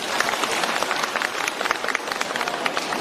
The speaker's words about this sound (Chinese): 让我们掌声再次感谢卢台长。